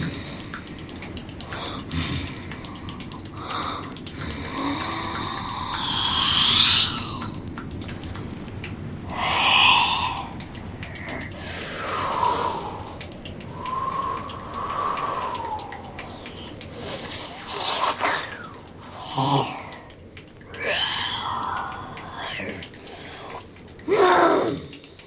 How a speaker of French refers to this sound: Il entend des grognements.